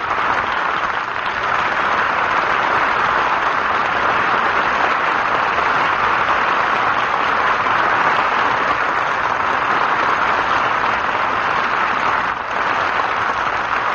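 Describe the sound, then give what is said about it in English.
Sustained, loud applause from a large studio audience, all standing, acclaiming a pianist who has just left the stage, a dense steady wash of clapping that holds at full strength for the whole stretch without any voices over it. “The beloved and distinguished-looking pianist has just left the stage, but is still being most enthusiastically acclaimed by our visible studio audience, many of whom, I dare say, have not seen nor heard the great artist in many years.”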